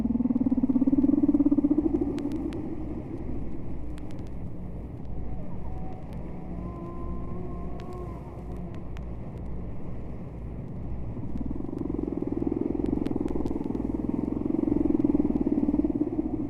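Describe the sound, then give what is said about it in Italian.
Faint, distant whale song: a few slow, wavering tonal calls gliding up and down, half buried under a steady low engine-like rumble and hiss that swells at the start and end. “Queste note misteriose arrivano da una balena lontana, si distingue comunque un canto.”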